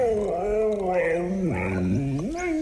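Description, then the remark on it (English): A family dog makes drawn-out, wavering vocal sounds, its pitch sliding down and back up in a continuous, talk-like moan lasting a few seconds. “we have a family dog”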